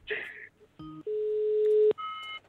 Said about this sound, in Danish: Prøver vi lige at ringe op. Vi ved ikke, om hun tager telefonen, jo. Nej, vi må håbe.